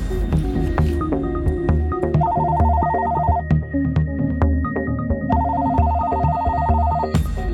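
signal or alarm, telephone ringing

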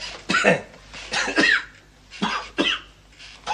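human body sound, coughing on request

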